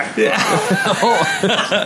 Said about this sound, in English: it sounds like disgust and like a turn your head and cough or something. I love it.